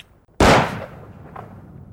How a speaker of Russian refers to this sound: Выстрел прогремел с такой силой, что, казалось, уже один его звук должен был сбросить белотелую девчушку в море.